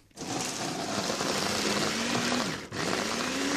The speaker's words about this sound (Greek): Παίρνω τα κολοκυθάκια, τα βάζω σε μια σουπιέρα και τώρα θα τρίψω τα κρεμμύδια. Θα τα τρίψω πιο εύκολα στο μπλέντερ.